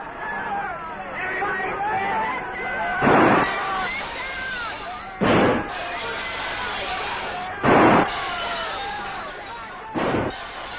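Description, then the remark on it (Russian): Four loud, sharp gunshots, fired at the windows of the apartment of an adviser to the USSR mission at the UN, ring out a couple of seconds apart, cutting through a steady murmur of crowd chatter in the background. “Да, это уже настоящая война, и в этой войне гремят выстрелы.”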